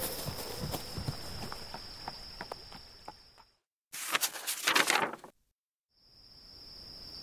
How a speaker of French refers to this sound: Du plus profond de la nuit, le petit cheval se met en route. Il a un long chemin à parcourir. Il trotte sous les étoiles en longeant la rivière.